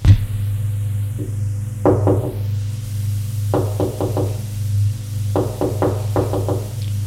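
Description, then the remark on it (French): Three quick bursts of knocking on a door, each a cluster of three or four raps, spaced a second or two apart over a steady low hum, with no one talking. “On frappe à la porte.”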